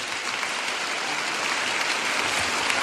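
A crowd at a conference claps steadily for the young attendees under 30, a dense wash of many hands applauding at an even, fairly loud level throughout, with no voices standing out.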